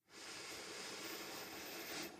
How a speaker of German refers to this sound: Du sollst dich beim Atmen nicht überanstrengen. Dann atmen wir wieder hier gemeinsam ein